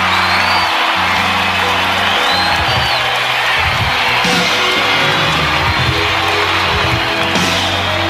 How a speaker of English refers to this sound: It's going to make its first appearance in a long time on a live stage. So I want you to put your hands together and give a big round of applause